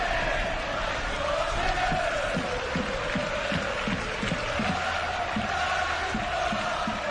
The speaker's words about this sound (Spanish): El otro tema es el de los cánticos. Están muy molestos en el Español y mañana hay que esperar a ver lo que dice la Liga por cánticos como estos.